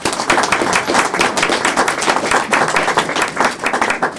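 An audience claps steadily for veterans and service people on Memorial Day, a loud, dense patter of many hands lasting about four seconds with no voices over it.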